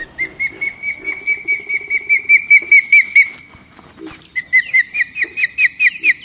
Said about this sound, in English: These two ospreys are calling near their nest, which they made by placing large sticks atop just one such cell tower.